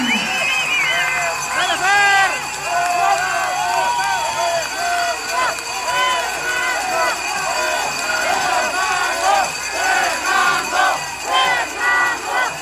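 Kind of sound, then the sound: crowd, audience applause and cheering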